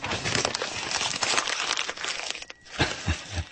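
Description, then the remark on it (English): Paper is crumpled up in a dense, crackling burst of crinkles lasting a few seconds, briefly pausing before a few last louder crunches and rustles. “he said as he crumpled them up.”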